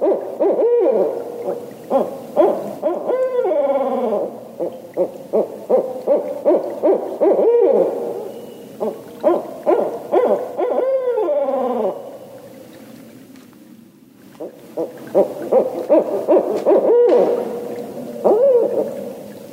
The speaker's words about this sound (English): And here's what it sounds like when two pairs of owls are calling back and forth.